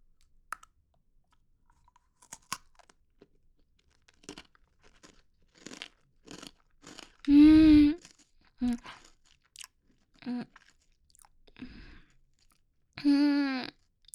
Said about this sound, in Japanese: じゃあ、右手ね、ポッキー食べていきます。あー、美味しそうな匂いする いただきます。